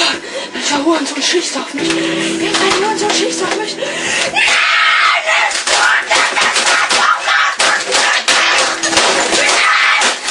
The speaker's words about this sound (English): I was thinking about suspending you for a week, but I had a video of you from last Tuesday swearing your mouth off and smashing a keyboard.